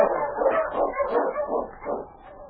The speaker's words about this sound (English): When he heard the sound of an approaching dog team, Frank Morris looked out the window of the shack he shared with his partner.